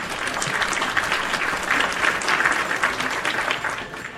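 Steady audience applause, a dense wash of many hands clapping at an even loudness for about four seconds, tapering slightly at the end.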